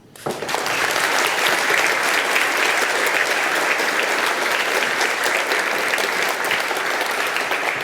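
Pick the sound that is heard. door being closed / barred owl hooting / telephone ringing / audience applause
audience applause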